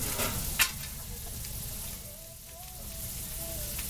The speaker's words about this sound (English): The mouth-watering smell of the meat and vegetables sizzling on top of the hot grill drafts out of the truck kitchen to lure visitors.